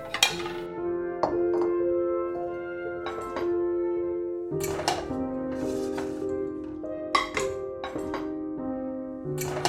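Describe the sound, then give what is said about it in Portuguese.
A fork clinks repeatedly against a cake plate as someone eats birthday cake, each sharp tap leaving a bright ringing tone that lingers; the taps come irregularly, several over a few seconds, with no voices. “Entre uma garfada e outra, um gole d'água”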